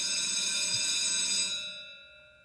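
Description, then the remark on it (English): A school bell rings loudly and steadily with a bright, metallic tone for about a second and a half, then trails off into a fading ring. No one speaks. “As true as the bell rings every day at Busted Pencils, we have our segment, Democracy in Action”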